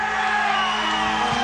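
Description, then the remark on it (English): A loud, dense crowd roar of audience members yelling and whooping, sustained without a break from start to finish, as a packed audience cheers. “are the loudest fucking people in the audience.”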